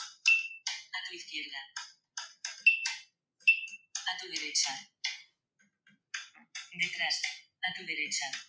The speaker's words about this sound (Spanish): Cuando se oye repetitivamente tin, tin, tin, significa que está enfrente. Los tambores de fondo indican en sonido en 3D si está a la derecha o a la izquierda.